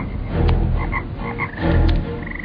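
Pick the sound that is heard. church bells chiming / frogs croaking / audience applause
frogs croaking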